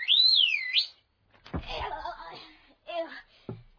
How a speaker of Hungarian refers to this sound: Ha jön valaki, fütyülök, így.